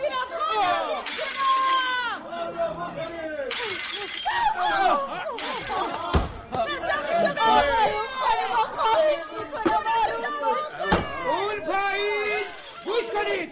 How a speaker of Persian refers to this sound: آقایون بزنید خونش رو داغون کن. اول این شیشه رو من میشکنم.